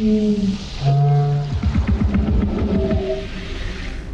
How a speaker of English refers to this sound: To create the language of the aliens, New Zealand-based sound designers David Whitehead and Michelle Child recorded local birds and lowered their pitch, then added some other animals and instruments like bagpipes and didgeridoos.